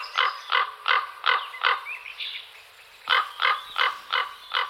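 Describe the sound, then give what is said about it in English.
A common raven gives a steady run of harsh, croaking calls, broken by a brief stretch of softer warbling sounds before the rhythmic croaks resume. “Cultures from Tibet to Greece have seen the raven as a messenger for the gods.”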